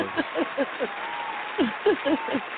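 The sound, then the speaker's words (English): A thin, tinny applause sound effect from a button pushed to greet a caller on the line: a quick run of rhythmic bursts, a brief pause, then a second run, all moderately loud with no talking. “I have a applause button that I want to push.”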